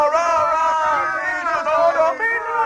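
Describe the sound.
A large crowd gathered in a town square around a castle cheers and chants together in a sustained, loud roar of voices, with a brief dip before the shouting swells again.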